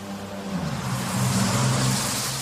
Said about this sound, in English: This is what a double-decker bus sounds like to a toddler.